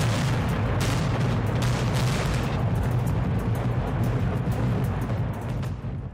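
A deep, continuous roar of demolition blasts as North Korea blows up tunnels 2, 3 and 4, ground observation facilities and related buildings at the Punggye-ri nuclear test site on May 24, rolling on for several seconds, loud, with heavy low rumbling and crackling debris that fades slightly at the end.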